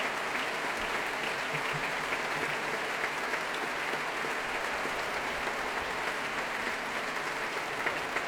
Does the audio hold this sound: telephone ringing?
no